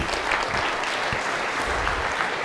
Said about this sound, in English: Give Jesus one more hand clap of praise if you would, please.